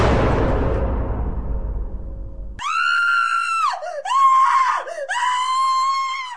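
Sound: woman screaming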